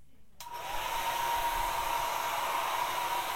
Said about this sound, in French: On va poursuivre, cette fois-ci on va continuer avec un sèche-cheveux. On va faire passer le sèche-cheveux devant, derrière, la tête.